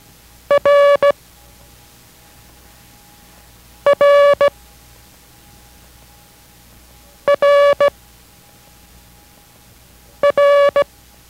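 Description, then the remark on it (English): The Morse letter R (Roger), short-long-short, is sent four times for copying practice as crisp bursts of a steady mid-pitched tone, with long even pauses of quiet hum between each repetition. No one speaks. “Listen to its sound each time and copy each time it is sent, even though you know that the next character will be the same.”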